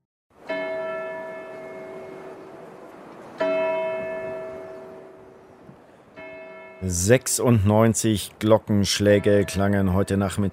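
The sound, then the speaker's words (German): A church bell in Liverpool tolls three slow, resonant strikes, part of 96 tolls for the victims of the Hillsborough stadium disaster, each ringing out and fading before the next; on the last toll, a voice begins speaking over the decaying hum. “Liverpool 96 Glockenschläge für die Opfer der größten Katastrophe im englischen Fußball.”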